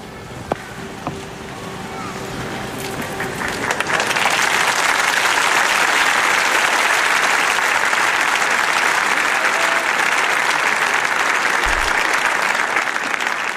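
Broad, dense applause from a large crowd of faithful and pilgrims in St. Damasus Square thanking and greeting the Pope swells over the first few seconds into a steady, loud roar of clapping that continues without pause, with a few faint tonal traces at the start.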